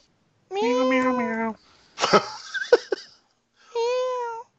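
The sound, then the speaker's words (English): Two long, drawn-out meows, voiced by a person imitating a cat, separated by a burst of breathy, scratchy noise and short clicks. The meows are loud, with silence around them. “isn't on, but his cat is.”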